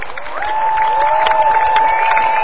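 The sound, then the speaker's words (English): An audience at a concert, where the band members have just been introduced, claps in a dense, continuous patter of applause, with a steady high-pitched whistle-like tone ringing through it for the whole two and a half seconds. “Applaud old age, come on.”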